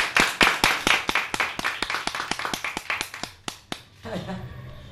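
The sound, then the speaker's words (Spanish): Brisk applause for a woman, steady, sharp claps, fairly loud, that taper off after about four seconds, followed by a voice beginning to speak. “Yo creo que se merece esta mujer un fuerte aplauso de todos.”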